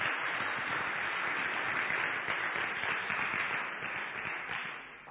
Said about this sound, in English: Please give him a round of applause.